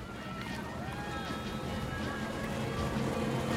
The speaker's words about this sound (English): The speedboat grows nearer.